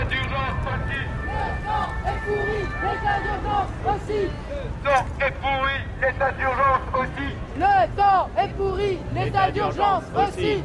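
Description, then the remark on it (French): A large crowd at a demonstration on Place de la République murmurs and chatters in heavy rain, many voices overlapping with occasional louder calls rising above, over a steady low rumble and wash of rain throughout. “Il pleut fort en ce jour de manifestation, place de la République”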